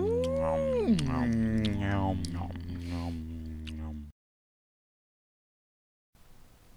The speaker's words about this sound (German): Im Hintergrund die Wölfe.